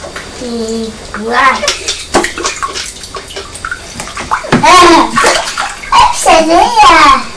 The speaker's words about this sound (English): big toy box, and we filled it with water and bubbles, and you're in the kitchen, on the floor, having a big splash.